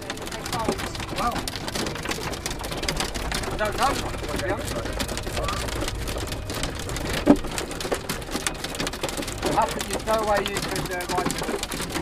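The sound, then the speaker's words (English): Heavy rain pours down steadily during a race, a dense continuous hiss and patter on surfaces, with faint muffled voices and a few birdlike sounds underneath. “you know was a little bit strange because I saw the weather and was like a sunny day, and they say that it was raining full gas in a few kilometers after.”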